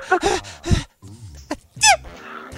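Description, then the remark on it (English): A voice imitates someone's obnoxious, high-pitched fake sneeze, a couple of short breathy bursts followed by a sharp squeaky rising squeal, fairly loud and with no words. “She loves to do obnoxious fake sneezes.”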